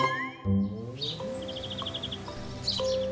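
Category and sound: bird, bird chirping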